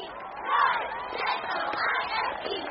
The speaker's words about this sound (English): Ye Tigers! Woo! Come on, crowd, let's hear some noise. N-O-I-S-E, noise.